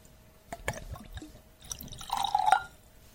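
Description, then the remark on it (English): A few light taps and drips, then tequila gurgles and splashes as it's poured from a corked bottle into small shot glasses, the pitch rising as they fill. Fairly quiet, with no talking. “It's almost like pouring it out of a canteen.”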